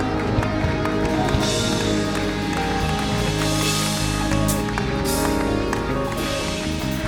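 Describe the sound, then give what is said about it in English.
An audience at a church service claps steadily and shouts in praise to God, a loud, continuous wash of hands and voices, with sustained musical tones running underneath. “Come on, why don't you clap your hands and give him a shout of praise tonight?”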